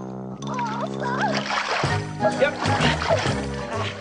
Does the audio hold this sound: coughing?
no